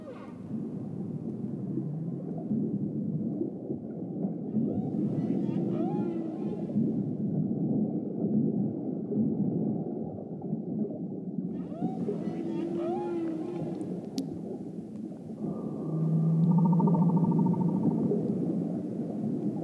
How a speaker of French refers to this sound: L'écoute du chant des baleines favorise instantanément une décontraction musculaire, un ralentissement du métabolisme et un moment de détente profonde. Les mélodies vont se succéder en séquence et en courts refrains répétitifs